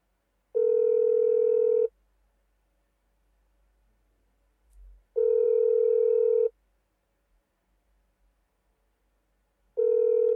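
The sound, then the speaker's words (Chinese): A phone's ringback tone sounds while a missed call is being returned: three steady, clear electronic tones, each lasting over a second, separated by long silent pauses, with no one talking. “好，给他回拨过去吧。”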